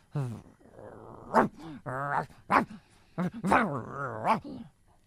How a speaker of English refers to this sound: Well, that's a big dog.